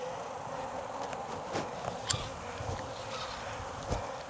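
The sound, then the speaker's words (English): A dense, steady drone of many honeybees buzzing around a hive as it is strapped up for the ride home, continuous, with a few faint knocks and clicks over the constant hum and no voices. “Yeah, it's going to be a buzzy ride home for a lot of bees.”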